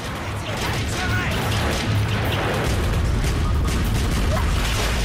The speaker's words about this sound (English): As the smoke clears, fire rages in the building. Incessant gunfire peppers the walls of the embassy with bullet hits.